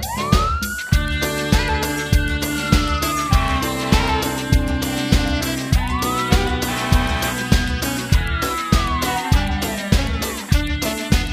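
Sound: fire truck siren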